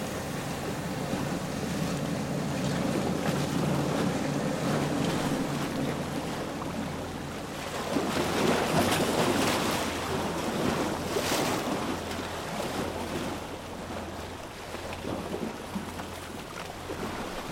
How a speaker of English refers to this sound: And closing with the waves striking, showing the motion and the power of the sea.